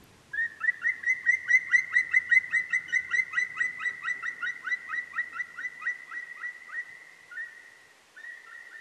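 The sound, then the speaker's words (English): A bird sings alone, clear, in a long run of rapid, evenly spaced whistled notes that holds steady for several seconds, breaks off briefly near the end, then resumes. “But in fact, we know that bird songs are not aesthetical only for the human mind, human sensibility, because for the birds it's just another meaning, another situation”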